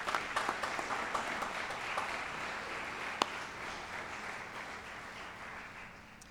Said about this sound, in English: If you have been the benefactor of love and support and the hard work of others so that you can be here today, let's take a moment to thank those individuals with the symbol of applause.